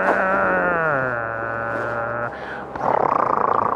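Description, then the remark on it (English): A voice imitates a vehicle, holding a steady droning engine tone that drops in pitch, then breaking into a loud, rapid rattling burst like tyres clattering over a cattle grid. “That was over a cattle grill.”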